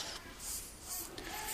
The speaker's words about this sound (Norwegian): Noen av dere kan se hva jeg skriver her.